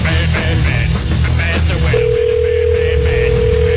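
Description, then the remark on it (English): A steady, unbroken telephone line tone from an unanswered call to a radio station cuts in about halfway through and holds loudly to the end, layered over a dense, busy musical background. “But I don't think that's why no one's answering the phone.”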